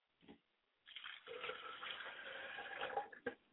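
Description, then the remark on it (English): Liquid is poured out as a libation to the speaker's father's spirit, pouring steadily for a couple of seconds, a continuous splashing gush with a faintly ringing tone, preceded by a brief soft knock and ending abruptly. “I pour libations to my father's spirit, and I say Ashe.”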